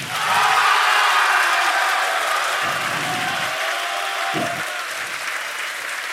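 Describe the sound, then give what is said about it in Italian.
A crowd applauds a contestant steadily for about six seconds, measured by an applause meter, a dense, loud wash of clapping that stays fairly even throughout, with no speech over it. “Paolo, facciamo un passo in avanti perché anche per te c'è l'applausometro”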